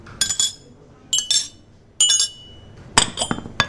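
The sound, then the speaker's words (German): Spoons clink against coffee cups and saucers in a kitchen as coffee place settings are laid with spoons and sugar packets, in four quick clusters of bright, ringing metallic and ceramic taps, each burst a few sharp strikes followed by a brief pause. “In der Küche bestückt Laura Klump gerade Kaffeegedecke mit Löffeln und Zuckertütchen.”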